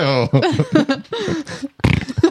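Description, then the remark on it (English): A voice makes a run of wet, buzzing lip raspberries imitating farts, several short sputtering bursts of varying pitch, with a louder rattling blast near the end. “Hey, now we know why some people are great at making that noise with their mouths. They've got fart lips.”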